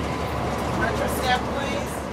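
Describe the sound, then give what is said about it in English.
Steady engine rumble and road noise fill the inside of a moving number two city bus, with murmured voices and faint rattles blending into the continuous hum. “We heard that over and over again on the number two bus.”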